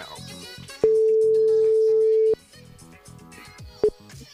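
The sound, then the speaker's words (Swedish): A steady, pure telephone ringing tone plays loudly for about a second and a half as a Gothenburg morning radio team calls a friend north of Gothenburg, followed later by a brief clipped start of the next ring, with music playing softly underneath. “Ja, vi ringer upp och kollar läget bara.”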